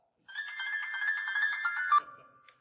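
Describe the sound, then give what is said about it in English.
A woman's mobile phone ringtone, turned up loud, bursts in, a bright warbling electronic melody with rapid pulsing tones that plays for under two seconds before cutting off abruptly, leaving a brief tail of room sound. “And guess who should have turned her phone off?”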